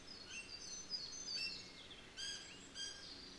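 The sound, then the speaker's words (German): Several birds chirp and tweet in short, high bursts among trees including Douglas firs on a mild day, layered over a steady outdoor hiss of wind in the leaves, with no talking. “Du hörst auch ein paar Vögel zwitschern.”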